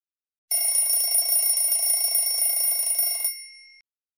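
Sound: alarm clock ringing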